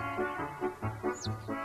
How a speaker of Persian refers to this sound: آره آره منم شنیدم، صدای جوجه است.